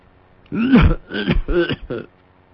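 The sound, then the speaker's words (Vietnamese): A voice imitates a sudden coughing fit of a blind old man: four rough, throaty bursts in quick succession, the first strongest, against near silence. “Nói tới đó đột nhiên ho sặc sụa.”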